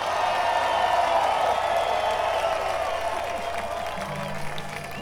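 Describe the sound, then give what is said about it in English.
Sustained applause from a large audience for fiddle player Bobby Hicks from North Carolina, a dense steady wash of clapping with scattered cheers, filling the whole stretch and easing off slightly toward the end. “That's all right, keep applauding.”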